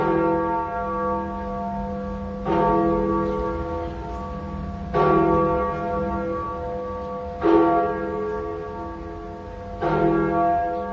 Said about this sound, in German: Es ist die größte profan genutzte Glocke Berlins.